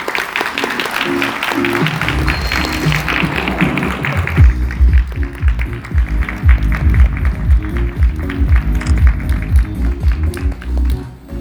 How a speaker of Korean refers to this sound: 여러분 커다란 박수로 맞아주시기 바랍니다.